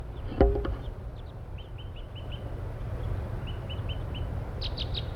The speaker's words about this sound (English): There are about 4 crossbills now near the parking lot area up in the pine trees, and one is still tooping.